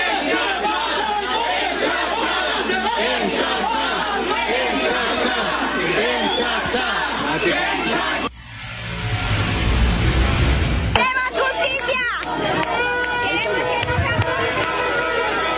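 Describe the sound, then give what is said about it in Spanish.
A crowd of citizens shouts slogans over one another at Valdetti as she sits in a police vehicle at the main entrance of a military barracks, a loud, dense clamor. Midway a deep rumbling burst swells beneath the voices, then the agitated yelling carries on. “De esa forma, Valdetti evitó mostrar su rostro a medios de comunicación y a ciudadanos que le gritaban una serie de consignas.”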